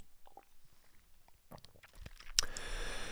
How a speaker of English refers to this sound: I'm going to have a little sip of watered down scotch while you ponder that for a second.